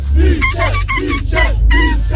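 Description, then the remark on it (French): A man imitates a seagull's cry as the winning entry of a seagull-cry imitation contest, with a series of loud, wavering squawks in quick succession over a low, steady background rumble. “Et rappelons qu'effectivement l'objectif est de mimer, enfin de faire le cri de la mouette.”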